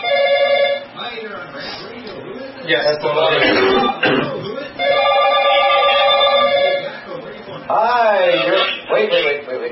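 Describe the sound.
A telephone rings in several loud, warbling bursts with short pauses between them, an incoming listener call to the Rant Radio show, while muffled voices and other murmured sounds fill the gaps.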